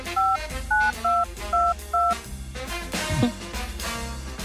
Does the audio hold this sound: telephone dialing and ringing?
yes